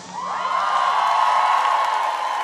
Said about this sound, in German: Applaus.